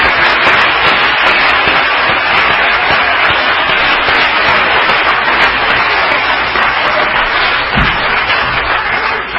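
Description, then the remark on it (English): A large audience claps their hands for the Lord in dense, sustained applause, a loud steady wash of overlapping claps for the full stretch without pause. “Let's give the Lord a good hand clap.”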